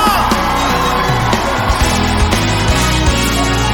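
A loud crowd of worshippers cheers and whoops continuously to celebrate God, with overlapping shouts and yells forming a dense wall of noise and sharp bursts punctuating it throughout.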